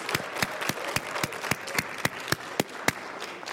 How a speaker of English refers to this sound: Can y'all give a big hand of applause for our worship team? Aren't they great?